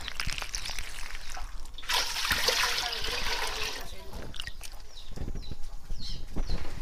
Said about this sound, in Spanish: Para hacer esta ensalada de berenjena, lo primero que vamos a hacer es lavar o limpiar las berenjenas.